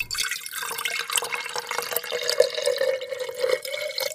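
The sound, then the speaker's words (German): Water pours steadily into a glass for a guest for a few seconds, with a splashing, bubbling stream whose pitch rises slightly as the glass fills. No one speaks. “Wasser, okay. Kostbarste Ressource überhaupt. Schütte ich ein.”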